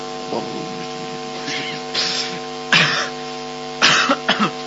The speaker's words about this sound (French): évitez de tousser dans le micro, c'est vrai, ça ne se fait pas.